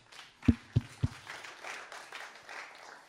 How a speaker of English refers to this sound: And the interesting thing I found about, finally, I'm freed from the microphone. Let's give a round of applause to the microphone.